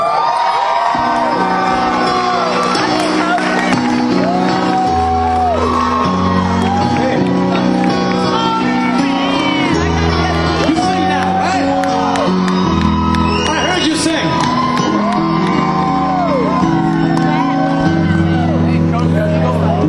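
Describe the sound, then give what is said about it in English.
A loud live concert recording: amplified music with steady bass notes under a large crowd singing along, with shouts and whoops of cheering rising throughout. “Everybody was singing that song.”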